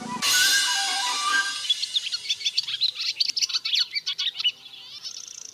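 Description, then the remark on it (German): A barn swallow sings a rapid twittering song. It opens with a loud harsh burst, then runs into a quick string of chirps and warbles, with no one speaking. “Auf Platz 2 findet sich die Rauchschwalbe.”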